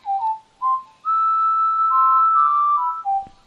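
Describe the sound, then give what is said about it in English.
Someone whistles a short tune: two quick chirpy notes, then a long, wavering sustained note sliding between pitches, ending with a brief drop. Clear, with no talking. “Who's whistling?”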